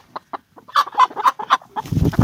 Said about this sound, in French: Oh ben les poules! Allez, vas-y, rentre-toi.